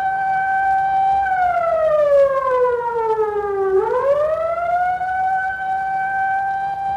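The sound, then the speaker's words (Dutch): An old fire engine siren, sounded as a demonstration of a burglar alarm, wails loudly and steadily, its tone sliding slowly down then climbing back up in one long mechanical sweep, with no voices over it. “Zodra er inbrekers zijn, holt u dus naar de brandweerwagen, gas geven en sirene aan, waardoor dus een enorm geluid komt.”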